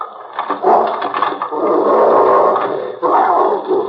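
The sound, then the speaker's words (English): Fred Harlan's dog growls at Harlan's house, where it is alone, a loud, rough, rumbling snarl that holds steady for several seconds with a brief catch near the end before continuing. “There's no one here but the dog.”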